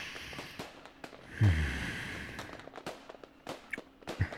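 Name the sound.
fireworks exploding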